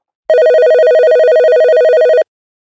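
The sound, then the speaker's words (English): A phone rings as an outgoing call is placed to reach a guest, a steady warbling electronic tone lasting about two seconds, loud, with no talking over it, then silence. “So let's not dilly dally, and let's go ahead and see if we can get him on the line.”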